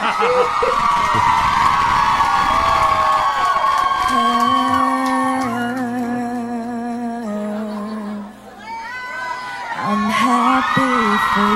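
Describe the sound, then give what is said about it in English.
A crowd cheers loudly and continuously, full of high whoops and yells, dipping briefly near the end before swelling again into another burst of shouting. “All right, enough exuberance, crowd.”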